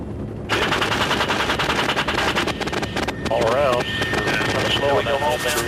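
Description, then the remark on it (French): Rapid, sustained machine-gun fire from a helicopter's gun, aimed by the crew chief's head movements through his helmet, loud, rattling continuously over a heavy rotor and engine roar, with voices briefly heard through the noise. “Ses mouvements de tête guident aussi le canon mitrailleur.”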